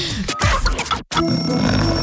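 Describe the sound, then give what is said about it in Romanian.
After a brief grunting, rumbling noise and a moment of silence, an alarm clock starts ringing, a steady, loud, continuous electronic tone that carries on to the end. “A sunat ceasul.”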